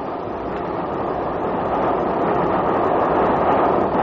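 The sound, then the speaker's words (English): A train rushes steadily along the rails at night, passing Preston Park Station and the village lights of Patcham: a continuous loud roar and rumble with a faint rhythmic clatter, building slightly in intensity toward the end, with no voices. “The hour shall pass like the wind, even as our famous train rushes through the night.”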